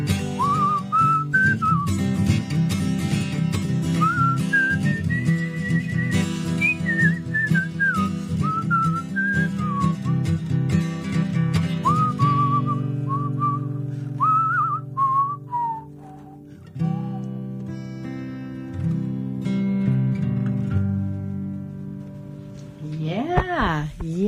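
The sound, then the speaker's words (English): Someone whistles a bright, wavering melody for about twenty seconds, the notes gliding up and down over a steady low droning backing, ending in a quick rising swoop. “Well, did you not come in second at the whistling competition that was held earlier?”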